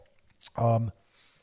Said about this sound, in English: Sip of coffee, still some COVID symptoms.